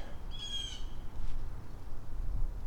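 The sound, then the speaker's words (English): A bird lets out a short, harsh squawk, fairly clear, followed by quiet with a low, steady background rumble. “squawk, squawk, squawk, squawk. I'm looking for anything that they might be complaining about.”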